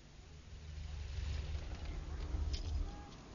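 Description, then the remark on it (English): A red car's engine idles with a steady, low rumble, fairly loud, easing off slightly near the end as the engine is turned off; no one speaks. “Why did you turn the engine off?”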